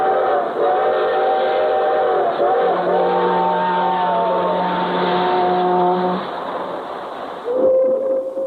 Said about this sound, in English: Hear 'em? The whistles of the freight trains? Well, maybe I'm just imagining it, but it does seem to me that in that familiar sound there is an added note of pride.